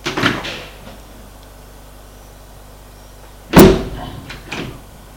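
A car door opens with a short clunk as someone gets out of the car, then after a quiet pause it shuts with a loud, solid slam followed by a softer rattle. No one speaks.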